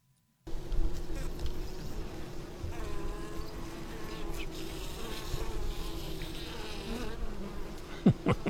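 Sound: bees buzzing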